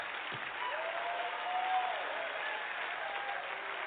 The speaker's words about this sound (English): Did you clap your hands before the cancer? If you got it now, you ought to clap your hands. You ought to.